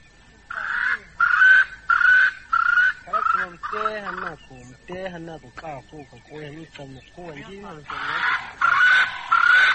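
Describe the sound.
Loud bird calls come in a quick run of rhythmic bursts, pause while a voice sounds briefly in the middle, then return as another burst of rapid calling at the end.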